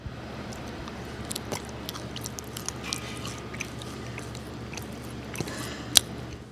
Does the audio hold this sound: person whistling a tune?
no